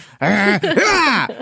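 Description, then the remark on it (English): A man's voice imitates Hugh Jackman's effortful, strained grunts and groans from a studio recording for the scene in Logan where he sprints through the forest: two loud bursts back to back with a rising and falling pitch, like someone straining while running, with no other words. “Someone find the video of Hugh Jackman in a studio to the scene in Logan where he's sprinting through the forest.”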